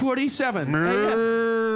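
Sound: cow mooing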